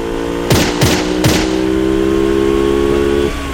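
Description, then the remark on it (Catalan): A motorcycle engine drones steadily as a man riding it draws a pistol and shoots; three sharp, loud bangs burst out in quick succession near the start before the engine hum carries on alone. “Resulta que un dia, en sortir d'una carnisseria, passa un home en moto que treu una pistola i li dispara.”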